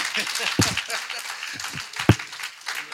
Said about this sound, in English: Okay, let's give him a clap.